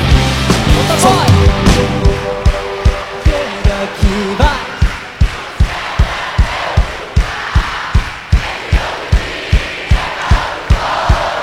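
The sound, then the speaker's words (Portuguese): A large crowd shouts and roars together while steady, rhythmic claps or stomps beat out a fast pulse beneath the noise, with sung or chanted voices rising at the start. “Estrangeiro aqui, dá um grito.”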